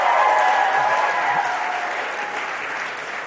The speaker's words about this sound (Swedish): Come on, ge dem en applåd. De är gifta.